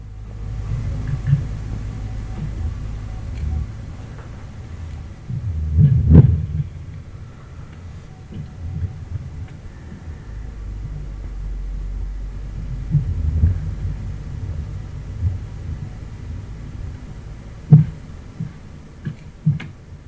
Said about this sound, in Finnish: Tämä on siis tämä on jää. Ja tässä tämä jää on laulunut tuollaisella 80 hertsin taajuudella.